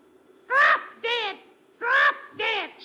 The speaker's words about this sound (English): No, no, it is a parrot, Commissioner. I'll prove it to you. Look, I taught him something to say to you.